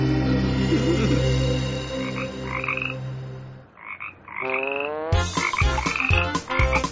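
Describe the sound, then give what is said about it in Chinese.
A dense chorus of frogs croaking at night at a small pond, steady and layered for several seconds, then briefly thinning before louder, rhythmic croaks pulse in short repeated bursts. “青蛙开始会在夜晚出来唱歌”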